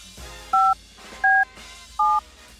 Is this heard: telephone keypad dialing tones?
yes